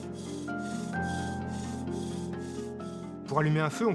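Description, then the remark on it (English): A bow drill rasps against a wooden plank in steady back-and-forth strokes, roughly two per second, its friction making heat to light a fire, with a low humming tone underneath and a short burst of voice at the end. “To light a fire, you can use a bow drill as part of the fire triangle, which is made up of a combustible, an oxidizing agent, and heat to ignite the flame.”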